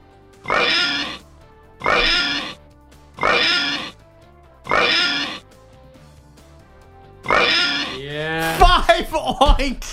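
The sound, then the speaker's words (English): Five loud pig oinks, each a short rough grunt, the first four evenly spaced and the fifth after a longer pause, followed by a brief burst of warbling voice. “Five oinks.”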